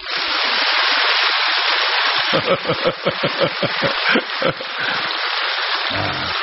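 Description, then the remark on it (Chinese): An audience at a Buddhist dharma talk applauding on the speaker's call: a dense, steady crackle of clapping that briefly turns into louder rhythmic unison claps in the middle, then settles back into a continuous wash. “念经都没有时间，小房子都念不出来，还有时间去跟人家吵架吗？鼓掌。”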